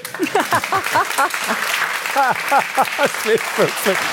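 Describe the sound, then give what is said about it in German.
A crowd applauds with steady, dense clapping for about four seconds, while excited voices call out and whoop over it in rising and falling shouts. “Frage ich dich jetzt auch, kann Applaus süchtig machen?”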